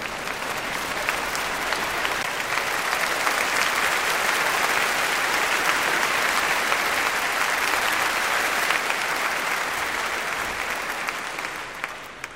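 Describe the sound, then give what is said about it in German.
A large crowd in Germany applauds and cheers steadily for about twelve seconds, celebrating an unexpected Eurovision Song Contest win, a dense roar of clapping that holds loud throughout and eases slightly at the very end. “Großer Jubel erfüllt Deutschland über diesen unerwarteten Sieg”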